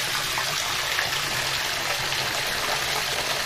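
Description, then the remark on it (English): A tiny amount of water pours steadily into a container, a continuous splashing trickle that holds an even level for a few seconds, with no talking. “Tiny little bit of water. We're going to put some more in.”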